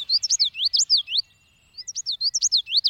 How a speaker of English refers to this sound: Let's spotlight the common yellow throat.